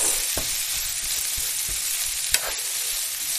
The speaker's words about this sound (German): Und da kommt jetzt der Lauch rein. Achtung, Britzel. Yay. Der Lauch, der wird da drin jetzt so ein bisschen braun angebraten. Also nicht braun, so ein bisschen halt, ne?